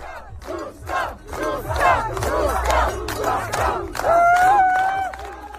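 A crowd, including Czech President Petr Pavel, cheers loudly at a ski race finish line as the winner Maďarová arrives, many voices shouting and whooping in continuous overlapping waves, with a steady high-pitched horn-like tone sounding over the cheers near the end.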